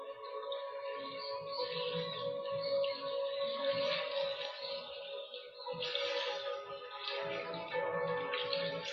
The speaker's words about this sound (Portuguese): Percebendo o toque do ar na sua pele, os pássaros lá fora, o gosto na sua boca, o escuro nos seus olhos.